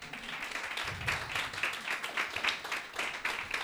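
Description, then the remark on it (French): An audience at a comedy show applauds on the comedian's cue for a few seconds, a dense, steady wash of many hands clapping with crisp, bright claps standing out, holding at a fairly even level without fading. “C'est là où vous applaudissez.”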